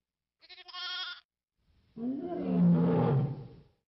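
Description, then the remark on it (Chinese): A brief, shaky sheep bleat rings out first, then after a pause a loud lion roar rumbles for nearly two seconds before fading; no one speaks. The lion is carrying off a lamb from a flock of sheep. “哎呀，不好了，狮子，它抓走了我的一只小羊啊！”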